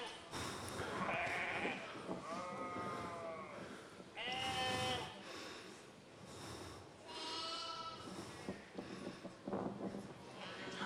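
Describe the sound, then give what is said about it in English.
Sheep bleat again and again in a played video clip in which a shepherd comes over to help a sheep out of a bind; a series of wavering, nasal calls in quick succession, fairly loud over a steady background rumble. “It gets into a little bit of a bind, so the shepherd comes over and tries to help the sheep out, and you'll kind of see what happens next and how sheep are a lot like us.”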